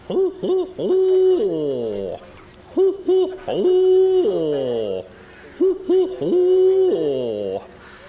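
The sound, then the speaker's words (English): Owls in a river swamp at night hoot back and forth in three loud phrases, each a few quick clipped hoots followed by a long, drawn-out hoot that wavers and falls away. There is nothing else in the background. “Down in the river swamp, you can hear the owls start communicating with each other.”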